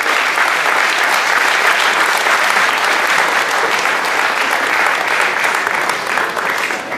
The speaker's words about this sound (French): que je vous demande d'applaudir très fort, s'il vous plaît.